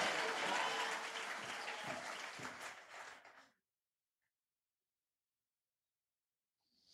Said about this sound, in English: Clap your hands one more time to the Lord. Come on, give the Lord a mighty hand clap. Sounds good in here.